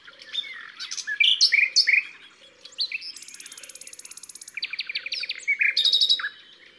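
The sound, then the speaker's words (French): A nightingale sings in a loud, varied, nonstop stream of whistles, chirps and a fast buzzing trill. Fainter calls in the background come from a second, distant nightingale answering it. “Il y a un autre rossignol au loin, et ils se répondent, ils s'écoutent.”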